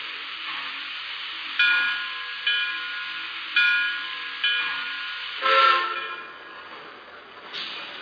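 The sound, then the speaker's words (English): A steam locomotive arriving at a station on track one from New York hisses steadily while rhythmic bursts of steam puff out about once a second, with brief whistle tones on each burst before the train settles into a quieter hiss. “Now arriving from New York on track one, train number 5, the Pennsylvania Limited.”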